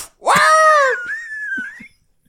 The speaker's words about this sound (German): Also, wir haben sehr wenig Budget, aber dadurch sehr viele coole Soundeffekte. Ja, und wir sind sehr motiviert. Solange es nicht zu lang dauert. Wilhelm schreit, ja, kein Problem.